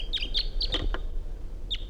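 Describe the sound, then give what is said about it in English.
A wild male bird sitting at the top of a small ponderosa pine gives a quick series of high, bright chirps in a rapid cluster, pauses, then adds one more short chirp, standing out over a low steady background rumble. “That bird sitting up in the top of a small ponderosa pine.”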